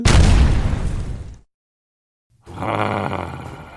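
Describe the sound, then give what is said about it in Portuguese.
A loud explosion sound effect bursts out and roars for over a second before cutting to silence, then a second rumbling blast of debris-like noise follows. “Oh céus, onde é que eu pus o raio do elixir anti-explosões? Oh não, era esse!”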